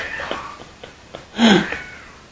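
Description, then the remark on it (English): A cat lets out one short, wavering yowl, a pitched cry lasting well under a second, after a few faint soft taps. Nobody talks. “I don't know if you can hear this cat, but he's yowling.”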